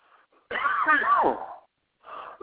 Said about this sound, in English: Excuse me. All of a sudden, I get a dry cough, and it just really is kind of, you know, interrupting my speech.